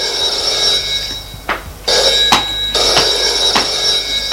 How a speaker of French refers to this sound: Il s'assoit sur une chaise. Le téléphone sonne.